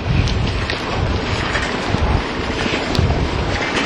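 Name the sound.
shower water running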